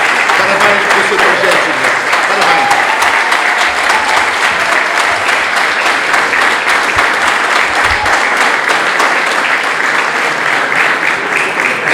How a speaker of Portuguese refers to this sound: Uma grande salva de palmas também ao Sr. Guilherme.